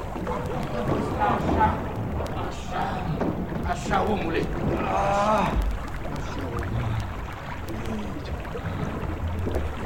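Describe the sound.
A small boat is rowed quickly through water toward a man in the water, with continuous splashing and sloshing, wind rushing across the microphone, and voices calling out briefly over the noise.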